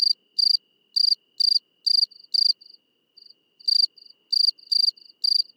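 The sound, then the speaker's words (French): A Provence cricket (Gryllus immaculatus) chirps steadily at night, clear, in short bursts of pulses with a few softer, brief trills between them, with no other sounds around. Recorded at 22:30 on 4 October 2017, at 14 degrees, on the plain near the village of Vidauban. “Rencontre avec le grillon de Provence, Grillus immaculatus.”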